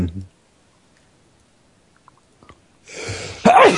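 sneeze

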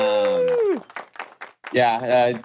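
crowd applause and cheering

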